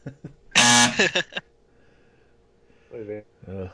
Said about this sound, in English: Give yourself the buzzer.